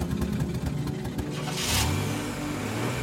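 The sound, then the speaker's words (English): A car engine cranks and catches, then revs up with a brief loud roar before settling into a steady low idle, with no talking. “I shake these thoughts from my head and start up his car.”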